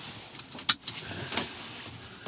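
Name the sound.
car seatbelt being fastened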